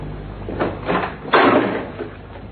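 The locked door of a house is opened: a couple of short scraping clicks, then a longer rustling swing as it moves open, with no voices.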